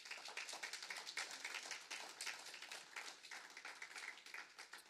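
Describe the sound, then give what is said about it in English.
An audience applauds steadily for the people who came, many hands clapping in a dense, crackling wash for the whole stretch with no voices rising above it. “But for those who came, let us clap one more time for them.”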